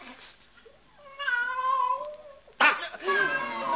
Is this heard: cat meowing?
yes